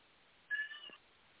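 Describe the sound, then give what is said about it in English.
A single short cat meow, soft, rising briefly out of a quiet background and fading within about half a second. “And see, did you hear the cat? They're very happy to have participated as well.”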